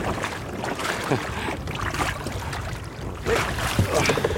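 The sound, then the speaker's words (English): An empty small boat is lowered and settles into river water with a few soft splashes and knocks, against steady gusting wind rumble on a windy day. “Oh, you might feel a couple of jerks just as we settle in the water.”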